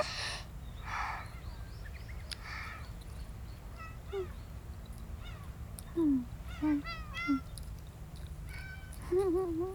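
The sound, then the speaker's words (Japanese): A cat meows several times in short, separate calls, fairly soft, over a steady low background rumble, with a couple of brief noisy bursts near the start. “ほれほれ、一緒に出遅れたメアニ猫ちゃんもおじいちゃん猫ちゃんも焦らんとゆっくりお食べ。”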